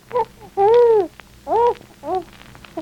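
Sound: baby crying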